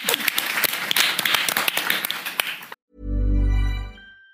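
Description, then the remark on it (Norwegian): An audience applauds for nearly three seconds, dense steady clapping, then it cuts off abruptly and a loud, sustained low electronic tone swells in and fades. “La oss klappe.”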